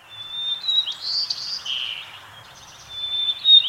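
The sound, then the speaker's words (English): A first-year sparrow in winter sings a shaky, uneven, off-key practice song of high, thin chirps and wavering notes, with a brief lull in the middle before the notes pick up again, no voices present. “As winter deepens, the first-year birds begin to get the syllables of their songs down, but they might sound shaky and off-key.”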